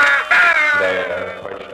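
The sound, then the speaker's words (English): A raven gives a loud, drawn-out caw whose harsh pitch slides downward, trailing into a shorter, softer second call at the end. “Raven, see?”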